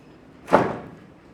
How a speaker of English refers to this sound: This door is actually ajar. Let's see if that helps to close it.